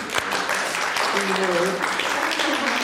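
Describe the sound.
A crowd claps steadily in a dense, continuous burst of applause, with a brief voiced cheer or call rising over it partway through, all at a fairly loud, even level.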